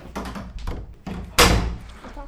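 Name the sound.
door slamming shut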